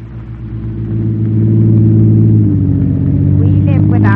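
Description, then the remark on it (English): A big car at the door: its engine rumbles loudly, the low drone shifting pitch midway as it revs and pulls away, with a brief voice near the end. “There's a big car at the door.”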